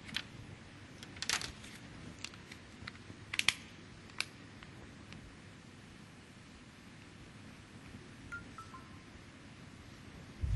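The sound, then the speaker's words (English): A handful of sharp plastic clicks and snaps as a cover is fitted onto a Windows Phone, clustered in the first few seconds, then only quiet hiss. “Actually, I have to put the cover. Let me just put the cover on the phone.”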